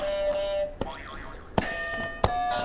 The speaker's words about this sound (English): Can you do another buzzer for me?